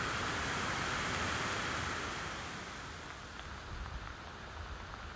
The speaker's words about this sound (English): Just as we've crested the top of Howsteen Gorge, we met with another drizzle shower passing through, driving into our faces as we clamber back up the hill towards Steen.